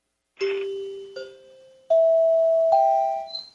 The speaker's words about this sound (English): Dinner bells. Yes. Here, you want to hear that again?